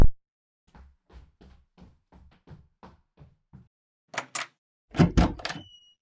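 A front door is opened to greet a visiting photographer: quick, evenly spaced footsteps approach, two sharp latch clicks follow, then a louder clattering rattle as the door swings open, with no talking.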